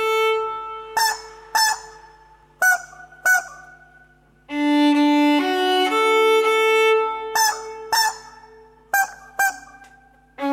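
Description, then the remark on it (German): A rubber chicken squeaks out a tune, short honking squeals in a bouncy rhythm with a long sustained run of pitched squawks in the middle, loud with no voices. “Gummihühner lieben Musik, wobei sich Gummihühner nicht auf eine Musikrichtung festlegen, sie lieben auch klassischere Musikstücke.”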